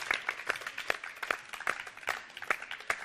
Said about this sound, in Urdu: اس کے ساتھ ساتھ ہم اپنی ٹیم سی کی اہلیہ کو بھی دعوت دیتے ہیں کہ وہ آئیں اپنے ساتھی کے ساتھ یہاں پر اس اسٹوڈیو میں کھڑے ہوں. تالیوں سے استقبال.